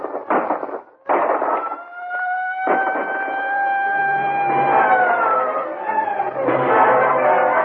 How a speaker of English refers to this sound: Then suddenly, a siren wails in the night.